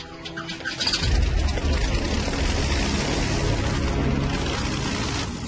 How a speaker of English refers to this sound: What we're looking for is just an imbalance in noise. You hear them popping out of each stack. You have to be able to distinguish each cylinder firing, believe it or not.